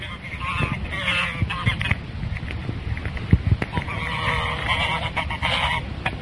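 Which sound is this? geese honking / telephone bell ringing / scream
geese honking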